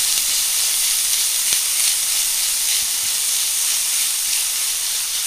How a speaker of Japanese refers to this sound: 同じフライパンにごま油を少量足して豚ひき肉を加えて炒めます。ひき肉の色が変わったらしめじも加えてしんなりするまで炒めてください。